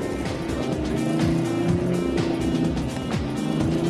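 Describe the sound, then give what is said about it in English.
A four-wheel-steering vehicle's engine revs hard and steadily as its tyres cut through slimy mud in a muddy driving contest, its pitch rising and falling as it strains, with a continuous rumbling drone and no voices. “He's thrashing the engine now.”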